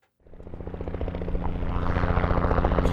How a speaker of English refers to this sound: In a canyon near Rock Springs, a helicopter descends.